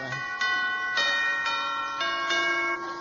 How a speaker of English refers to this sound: Well, ring the bell, then.